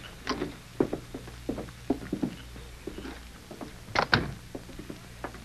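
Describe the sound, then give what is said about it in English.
A door being opened: a run of small clicks and rattles from the latch, building to a louder clunk and scrape near the end, with no voices. “I'll open the door.”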